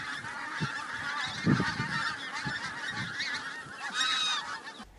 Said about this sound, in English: Look, geese.